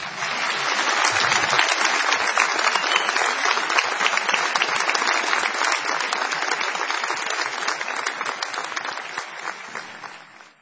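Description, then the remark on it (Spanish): The show's actors, more than 400, applaud the guest ahead of a commercial break, steadily for about ten seconds, a dense, even patter of many hands clapping at once that holds at a strong level before tapering slightly at the end. “Bueno, todos nuestros actores ahora van a aplaudirlo a usted y van a aplaudirnos a nosotros cuando le digamos que se viene una pausa.”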